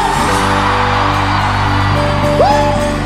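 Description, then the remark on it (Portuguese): A loud crowd shouts and cheers continuously over steady, booming live music, answering a call for everyone who is happy to make noise, with a single rising whoop cutting through near the end. “Só quem for aviãozeiro, por favor, dá um gritão. Quem tá feliz faz barulho.”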